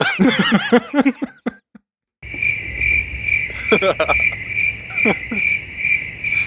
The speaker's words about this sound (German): Grillen? Ja.